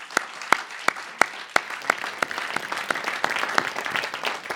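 An audience breaks into applause, starting with a few sharp, separate claps that quickly thicken into a steady, dense patter of many hands clapping at once, with no talking over it.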